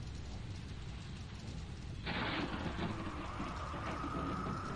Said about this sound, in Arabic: وما هي إلا لحظات حتى أظلمت السماء وهبت الرياح والعواصف وانهمر المطر من السماء غزيرا.